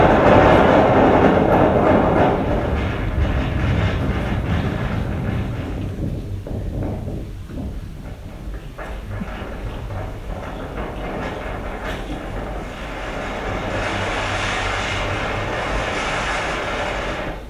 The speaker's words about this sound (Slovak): Tie podmienky proste, ktoré tam bývajú, sú fakt, že extrémne. Ten vietor, čo tam beží.